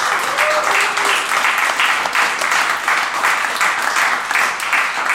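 Sustained applause from a crowd, a dense, steady wash of many hands clapping at once, loud and unbroken for several seconds with no voices standing out.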